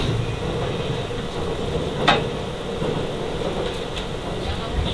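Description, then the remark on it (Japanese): Steady rumbling hum of a moving Japanese train made up of two coupled sets, bound for Mito, heard from inside a carriage, deep low-end drone with a constant hiss, broken once by a short sharp click partway through. “この電車は2つの編成に分かれておりますため、7号車から8号車相互の通り抜けはできません。”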